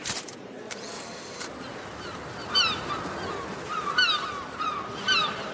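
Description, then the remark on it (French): Seagulls call out in a few short, squawking bursts spaced a second or so apart, heard over a steady outdoor hiss, not loud. “Vous vouliez écouter le son des mouettes.”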